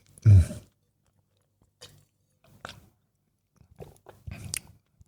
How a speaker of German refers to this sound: Und deswegen gönne ich mir hier noch ein Würfelchen. Das ist schon ein geiles Zeug. Normalerweise hörst du mich nur mit Wein schmatzen. Heute auch mit Blauschimmelkäse.